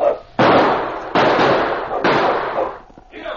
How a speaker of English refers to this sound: As Sergeant Preston, King, and Kate stopped where the prospector had been killed, they were suddenly startled by gunshots from the gully off to one side.